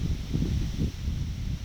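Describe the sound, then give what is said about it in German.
Steady wind heralding rain pushes through foliage, a low rumbling rush with soft swells and a leafy hiss, continuous with no voices. “Der Wind kündigt Regen an.”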